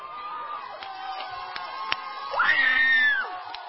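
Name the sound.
audience screaming and cheering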